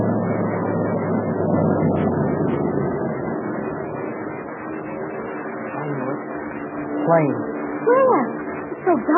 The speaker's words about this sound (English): The driver says those are invader planes.